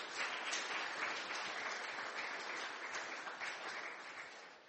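Sustained audience applause, a dense wash of many hands clapping steadily at an even, fairly loud level throughout, with no voices standing out.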